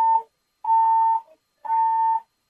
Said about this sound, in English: I want to let you know the fire alarm is going off in D.C. Superior Court right now.